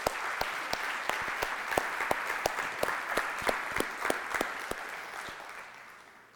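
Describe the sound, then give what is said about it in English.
An audience at Celebrate Recovery applauds to thank the small groups that provide food, clapping steadily for several seconds, a dense patter of hand claps with a few sharper individual claps standing out, holding at an even level before easing slightly at the end. “I want to just give them a round of applause right now.”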